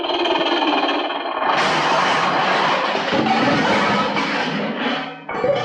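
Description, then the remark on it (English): A toy choo-choo train runs with a steady, loud whirring rumble, its mechanical clatter thickening after a moment and briefly dropping off just before the end. “Here comes my choo-choo train!”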